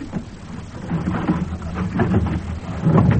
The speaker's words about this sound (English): The secret passage from the Maison Grenelle. It runs from the sedan chair in the treasure room and comes out in here. The sliding panel. Move it behind you.